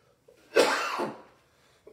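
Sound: cough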